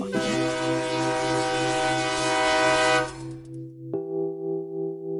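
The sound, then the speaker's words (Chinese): A train horn blares in a long, loud sustained blast over the rushing clatter of a passing train. The rumble fades away, then a second horn blast sounds on its own. “说他是背着挎篓就在那个铁道铁轨上，火车来也没躲。”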